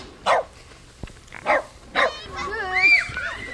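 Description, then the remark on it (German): A small dog yaps three times in short, sharp, high-pitched barks spaced about a second apart, followed by someone talking. “Das Hundchen sollte da nicht mitmachen.”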